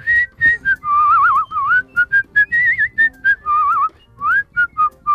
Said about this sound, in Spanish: ¿No te animas tú a silbar?